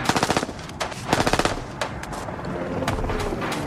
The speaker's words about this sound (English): The helicopter did a U-turn in the air to face us head on. Ambridge fired.